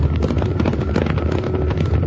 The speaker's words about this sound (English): It's a stampede. It's Tuttle's cattle, and they're headed right for us.